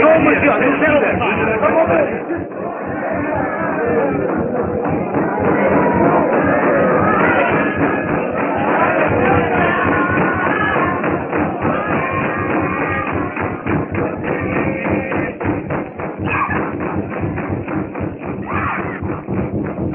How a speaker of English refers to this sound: Well, they are busy with their ritualistic dance.